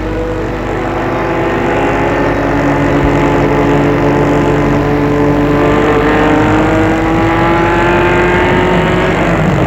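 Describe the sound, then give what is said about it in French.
A car carrying three people to Deauville drones steadily and loudly throughout, its pitch rising slowly as it accelerates, with constant road and wind noise as if heard from inside the moving vehicle. “Ils y vont en voiture.”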